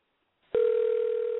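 A steady telephone dial tone begins abruptly after a brief silence and holds at one unwavering mid pitch, loud and alone, as a call to a listener is being placed during a radio show.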